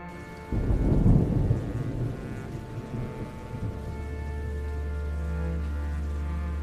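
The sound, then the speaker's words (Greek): Steady rain hisses while a deep roll of thunder swells early on and fades into a low rumble beneath the downpour. No voices. “Καθίστε να βάλω λίγη βροχή.”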